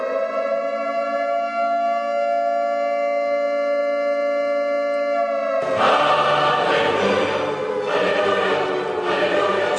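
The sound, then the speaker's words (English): A loud, sustained siren wails with a steady harmonic tone for several seconds, then shifts abruptly into a harsher, noisier blaring that continues to the end, with no one speaking. “I should play the siren.”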